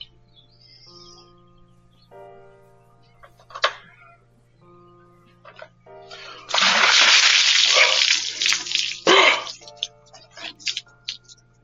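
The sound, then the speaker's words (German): Water gushes into a bucket in a loud, sustained pour lasting a few seconds, preceded by scattered clinks and splashes, with a steady low hum underneath throughout. “Einmal Wasser.”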